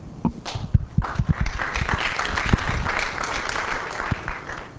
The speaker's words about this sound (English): Everyone check out that poster on LEO. Claps again.